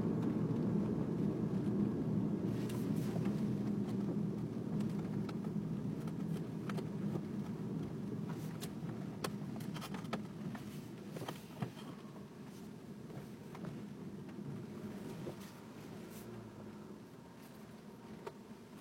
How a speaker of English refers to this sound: Yeah, it's raining. That's, I don't know, it's kind of cool. Different anyway.